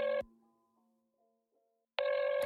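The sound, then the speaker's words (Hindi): A phone ringback tone heard while placing a call: a loud, buzzy electronic ring cuts off, followed by near silence with a faint fading hum, then the next ring starts about two seconds later. “ऐसे फोन करता हूँ एक सेकेंड।”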